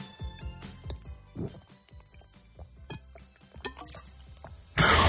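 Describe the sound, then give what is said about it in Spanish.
Someone gulps water, a steady series of wet swallowing sounds roughly once a second, ending with a sudden loud breathy rush of noise. “Tienes que ser constante dando un trago por segundo.”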